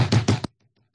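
Three quick, loud knocks in a rapid burst, like a fist rapping hard on a wooden door, followed by near silence with a few faint low thuds.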